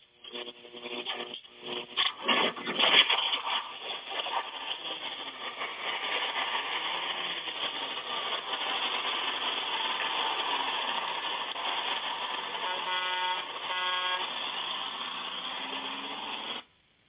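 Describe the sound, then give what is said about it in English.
The engine of the Six Eyes Gospel Bus rumbles and idles steadily throughout, with a few short horn honks near the start and again toward the end, moderately loud. “who do we got on the old gospel bus tonight?”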